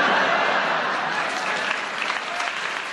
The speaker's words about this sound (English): Because the audience clapped and they enjoyed what you did, we'll give you a bonus point because you didn't get anything for those 56 seconds.